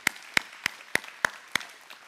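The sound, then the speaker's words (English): Six sharp, even claps land in a steady beat, roughly three per second, like a group clapping together in time, given as a big clap for the Lord. The claps are crisp and fairly loud, and no one speaks. “Give the Lord a big clap.”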